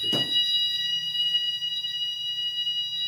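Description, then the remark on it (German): An alarm sounds continuously with steady high-pitched electronic tones, loud and sustained throughout, with a brief thump near the start and a low hum underneath; no one speaks. “Ich glaube, er ist die Quelle vom Alarm am Suchen.”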